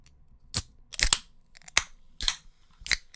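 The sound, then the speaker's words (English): Someone crunches a chilled crispy snack: about six sharp, crackling bites at uneven intervals over a few seconds, each bright and brittle, with quiet pauses between and no talking. “That was crispy.”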